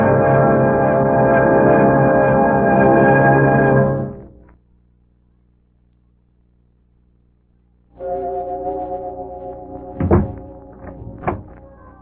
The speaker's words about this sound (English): Closing door finishes a story.